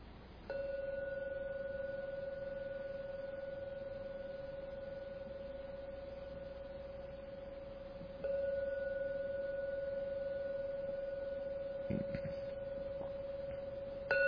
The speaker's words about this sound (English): I'm now going to ring the gong. Please listen to every sound from the gong, the three ringings. When the last ringing of the gong starts to vanish, then open your eyes to end the meditation.